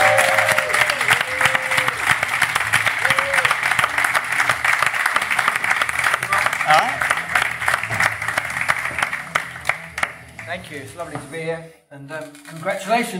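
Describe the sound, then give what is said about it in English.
A large audience applauds steadily for about ten seconds for EastEnders actor Jake Wood, with dense clapping that gradually thins out as a single voice begins talking near the end. “So please give a huge round of applause for Mr. Jake Wood!”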